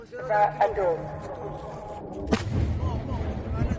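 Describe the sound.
A sharp explosive boom cracks out partway through as Israel's Iron Dome defense system intercepts missiles fired at Israel, followed by a deep rolling rumble, with muffled background voices and other thuds around it.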